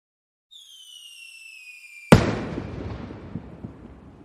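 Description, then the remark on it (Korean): A firework shell at a fireworks festival whistles upward in a thin, falling-pitched tone, then bursts with a sharp, loud bang that trails off into a crackling, rumbling fizz with scattered pops. No one speaks. “불꽃 축제가 있던 날, 택시 안에서.”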